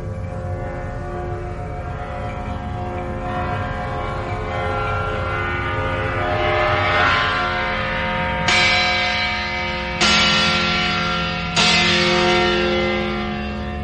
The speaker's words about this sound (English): Ah, and I think we're just going to hear the bell rang. There's a guide here.